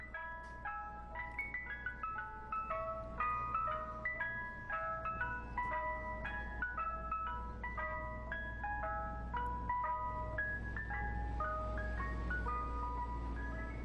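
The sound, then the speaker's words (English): A parked Mr. Softy ice cream truck in Inwood plays its tinkling music-box jingle over and over, bright repeating chime notes bouncing up and down in a cheerful melody over a low steady engine hum, with no voices. “Softy trucks, but a single Mr. Softy truck up there in Inwood, where the guy parks and just plays that jingle over and over again.”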